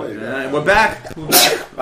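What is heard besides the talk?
sneeze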